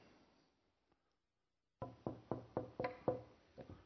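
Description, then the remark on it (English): After a brief near-silence, a quick, steady series of four loud knocks on a solid surface, with no voices. “I'm going to knock four times.”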